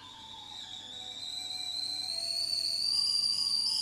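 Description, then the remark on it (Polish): A kettle whistles while water is heated for coffee, with a steady, shrill high-pitched tone that slowly climbs in pitch and grows louder over a few seconds, with no voices. “O, kawka się zrobi.”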